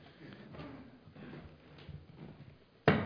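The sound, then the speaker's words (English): A stool is set down on a hard floor with a single sharp knock near the end, after a few seconds of quiet room noise and faint shuffling. “If I say, I believe that a faithful carpenter, a trustworthy carpenter, built this stool, therefore I can trust it to do what the carpenter said it would do, and I can exercise my faith in believing that if I sit on it, it does not collapse.”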